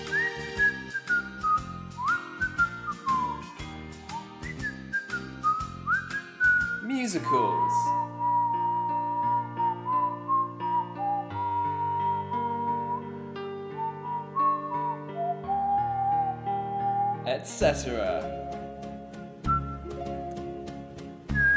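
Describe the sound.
A person whistles a classical melody over instrumental backing, the clear tone gliding and sustaining through long held notes, with a few brief spoken words heard near the start.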